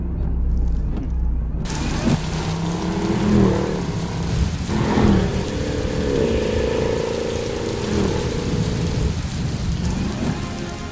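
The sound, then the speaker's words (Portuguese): Steady rain falls continuously, a dense, loud hiss filling the whole stretch, with a deep low rumble running underneath and no voices. “aumentar o trânsito com essa chuva, né?”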